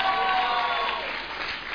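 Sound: audience clapping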